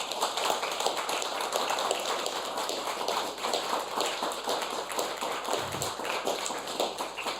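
An audience of guests at the Radiocafé on Argentinierstraße in Vienna applauds during a live radio broadcast, a dense crackle of many hands clapping at an even loudness throughout, with no voices standing out.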